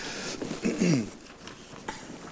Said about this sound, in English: Takes some of the most dedicated to get out in a rain like this.